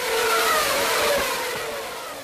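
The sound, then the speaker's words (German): A Formula 1 race car's shrill, high-pitched engine screams past at the trackside in Melbourne in 2013, loud and sustained, easing off slightly as it moves away. No one speaks. “So klang das in Melbourne an der Strecke 2013, die Nervenstränge gleichsam durchsägend.”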